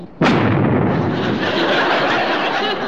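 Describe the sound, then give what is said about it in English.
A smoke screen is activated with a knob: a sudden loud whoosh bursts out, then settles into a sustained, dense hiss of venting gas that continues steadily to the end, like a smoke canister firing off. “Now, this knob over here activates the smoke screen.”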